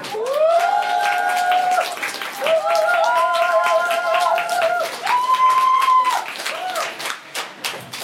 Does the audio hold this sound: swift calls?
no